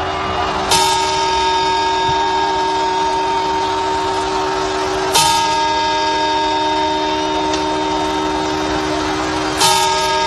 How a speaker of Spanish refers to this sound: Faltan solo 27 horas para que toda España escuche el mismo sonido, el de este reloj.